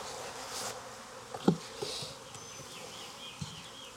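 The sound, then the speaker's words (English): A dense, steady hum of many honeybees buzzing around an open hive as a beekeeper handles and puts back a foundationless frame, with a few soft knocks and bumps breaking through the continuous drone. “Bees, just drawing it out.”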